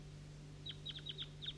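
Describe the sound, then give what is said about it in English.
Wild birds calling from up in a tree: a quick series of about six faint, high chirps in short bursts, over a steady low hum, with no talking. “These are the wild birds up in the tree.”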